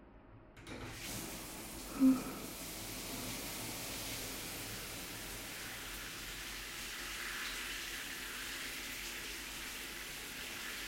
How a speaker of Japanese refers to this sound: じゃあ、シャワーかけるわね。